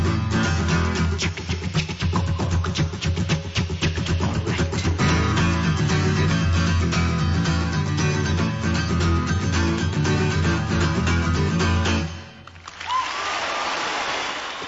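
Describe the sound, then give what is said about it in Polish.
A live song plays with full band and vocals, then cuts off and a crowd breaks into loud, dense applause, a steady hiss of many clapping hands for the final couple of seconds. “Już Państwo myśleliście, że te oklaski na początku dla nas były, ale to niestety.”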